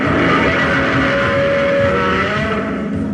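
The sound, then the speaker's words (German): A rosin-coated glove dragged by composer Ifukube in 1954 along the lowest string of a double bass, then slowed down, gives a loud, sustained, rasping roar with a steady droning tone, holding for about three seconds with no voices. “Versuche mit Tiergeräuschen brachten damals kein zufriedenstellendes Ergebnis und so strich Komponist Ifukube 1954 irgendwann einfach mit einem harzüberzogenen Handschuh über die tiefste Seite des Kontrabasses und verlangsamte dieses Geräusch dann.”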